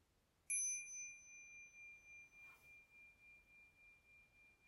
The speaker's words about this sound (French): Voilà, chers amis, avant de clôturer, je vous propose de réinviter la cloche et de prendre encore trois respirations ensemble avant d'inviter à nouveau la cloche pour nous lever, nous saluer.